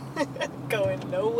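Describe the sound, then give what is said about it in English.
A low, steady engine and road rumble from inside a car stuck in traffic on the Williamsburg Bridge, with a person's voice speaking over the constant hum. “Here I am, sitting in a car with my partner in podcasting crime”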